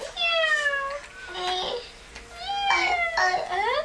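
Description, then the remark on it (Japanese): A cat meows about four times in quick succession, the calls high, drawn-out and wavering, loud, with no one else talking. “大好きな猫だよ。こっちにもニャニャいたね。”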